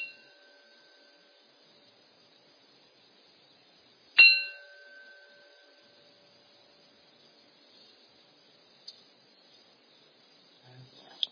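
A gong rung three times: its ringing tone fades at the start, then a single clear strike rings out loudly and slowly decays into quiet, broken only by a couple of faint clicks.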